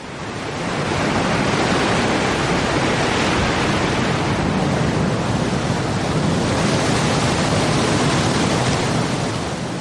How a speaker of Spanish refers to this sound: Atravesarlo sigue siendo un deporte de riesgo para los jóvenes de la zona. Esta marea se puede elevar hasta 9 metros y alcanzar una velocidad de 40 kilómetros a la hora antes de detenerse en las defensas costeras.